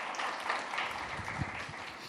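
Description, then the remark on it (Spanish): A crowd claps together in a steady, dense wash of applause that holds at an even level for about two seconds, with a few low thumps underneath and no voices; applause for the Lord during a sermon. “Denme un aplauso al Señor bien fuerte.”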